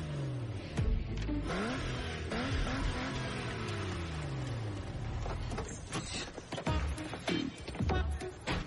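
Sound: car engine revving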